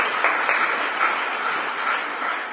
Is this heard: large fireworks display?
no